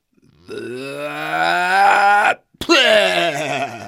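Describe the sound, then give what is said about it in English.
A long, strained voiced groan of disgust, then a brief sputtering break and a second drawn-out moaning groan, loud, made by a person voicing the spitting out of ice cream that tasted like mud. “Said Horse as he spit the ice cream that tasted like mud onto the ground”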